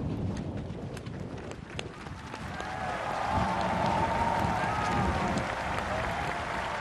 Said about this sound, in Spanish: Están escuchando aplausos del momento en que va a jurar que será presidente, como hemos dicho, Iván Duque. 42 años, presidente más joven en la historia de Colombia.